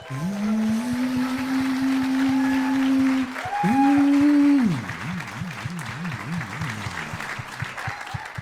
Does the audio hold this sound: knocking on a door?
no